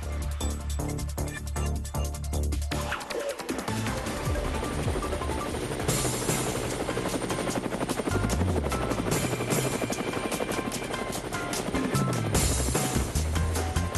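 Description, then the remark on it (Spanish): A helicopter's rotor blades thump in a fast, steady beat, loud, with a constant engine whine running underneath for the whole stretch. “Bueno, y las aspas del helicóptero, pues nos están anunciando que vamos a visitar algo”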